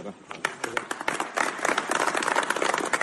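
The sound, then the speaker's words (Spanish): A crowd breaks into applause for the Guardia Civil and the families of those killed, scattered claps at first thickening into a dense, steady wash of many hands clapping, with some voices mixed in underneath. “y luego ese aplauso que dabais todos vosotros al cuerpo, ¿no?, a la familia de los fallecidos, a todos en general, ¿no?”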